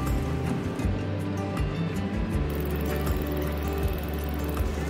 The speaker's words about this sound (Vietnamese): Thuyền ghe chở đầy ấp đủ loại hàng hóa di chuyển tấp nập.